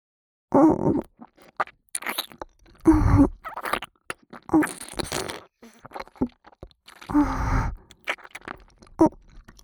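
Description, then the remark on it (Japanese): Wet mouth sounds of chewing and swallowing come in several separate bursts, some with low throaty groans mixed in, and short quiet pauses between them. “進化数もぐもぐごっくんするとこ、見ててくださいね。”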